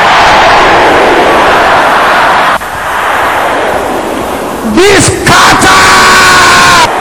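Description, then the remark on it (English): A large audience shouts a prayer together against witchcraft attacks tied to the new moon, in a loud, sustained roar of overlapping voices. Near the end, the crowd noise thins and a single voice rises and wavers above it. “Please pray this prayer. Can I hear you shouting it again loud and clear?”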